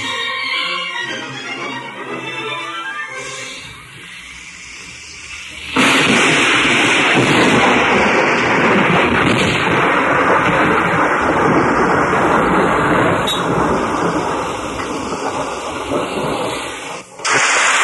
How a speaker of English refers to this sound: 3 weeks of non-stop rain.